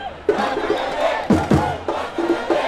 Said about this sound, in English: The crowd bursts into bawdy song and weaves off into the night.